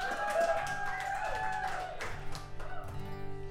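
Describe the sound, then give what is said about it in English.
An audience applauds for performer Liam Durkin with a steady patter of many hands clapping, layered over sustained, steady tones that hold throughout and fade slightly toward the end. “One more round of applause for Liam Durkin.”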